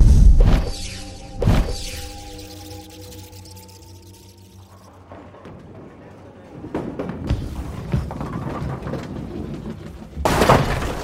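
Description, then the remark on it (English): A bowling ball crashes into pins for a strike with sharp, loud impacts, followed by a rumbling clatter of tumbling pins and another heavy crash near the end, with no talking. “Did you shatter those pins?”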